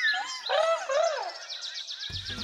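Several birds chirp and trill in quick, overlapping high-pitched calls, clear, with a rapid repeated twitter toward the end and a faint low rumble underneath.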